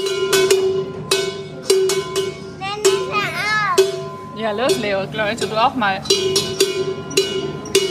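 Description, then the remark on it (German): A loud bell, rung as a small reward at the end of a tour, is struck over and over in an uneven rhythm, each clang leaving a bright, sustained ringing tone, while children's voices chatter and call out in the middle. “Komm, lass mal reinhören in diesen Ton, das erklärt sich sehr schön von uns selbst. Ist eine kleine Belohnung am Ende des Gangs. Glocke.”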